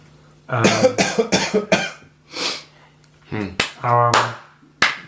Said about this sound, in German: Nein. Nein, weil ich gehustet habe. Du musst deinen Husten nicht verstecken,